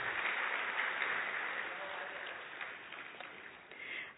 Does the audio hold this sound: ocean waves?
no